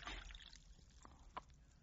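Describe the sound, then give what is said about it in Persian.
A short, soft trickle of water being poured into a cup, with a faint clink and splash near the end and no talking. “پیاله آب به من بده.”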